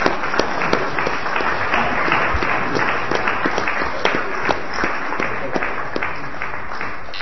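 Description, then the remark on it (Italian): A crowd applauds in tribute to Pippo Paletto, steadily for several seconds, dense overlapping claps forming a continuous, fairly loud wash with sharper individual claps popping out, and a few voices faintly underneath. “E siamo qui proprio per ricordare un grande uomo che si chiama Pippo Paletto, a cui va un nostro grande applauso e tutto il nostro rispetto.”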